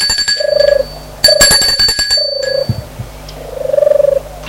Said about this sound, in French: Elle sonne à la maison du garde.